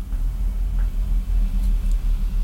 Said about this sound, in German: Ein dicker LKW fährt vorbei in unserem Studio, das eigentlich unser Schlafzimmer ist.